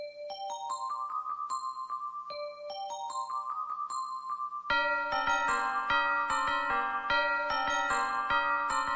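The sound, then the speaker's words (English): Bright, bell-like chiming music plays a quick repeating four-note carol motif, then grows fuller and louder halfway through as more ringing tones join in. No one speaks. “Semmu silta illi kif nisemawa żgur niftakru jew nasbu fil-miliet. Hija silta oriġinali ta' Carol of the Bells.”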